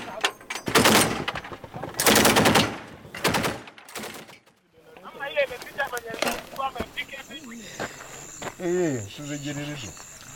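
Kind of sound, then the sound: machine gun firing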